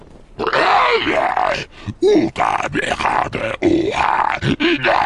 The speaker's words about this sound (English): shrieks in proto-Huttese, the translation box offering its interpretation in loud, mechanized monotone.